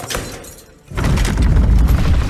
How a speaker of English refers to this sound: Very loud door.